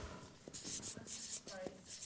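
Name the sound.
pen scratching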